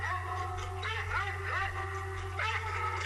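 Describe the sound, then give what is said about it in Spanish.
Villano dogs bark in alert during a training session, with loud, tonal, drawn-out calls that surge about three times, each rising sharply before holding, over a steady low hum. “Sí, son perros Está muy fuertes. alertando, pero tremendo, tremendo.”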